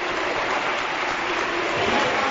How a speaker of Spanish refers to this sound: Sí, o sea que, pero bueno, cambio en el Málaga y escuchen la ovación a duda.